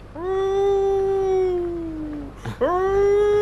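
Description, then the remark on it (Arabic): A voice imitates a wolf howl: one long, loud, sustained tone that slowly sinks in pitch, breaks off briefly, then swoops back up into a second held note, with no talking. “قلد صوت الذئب أيضا، أتعرف؟”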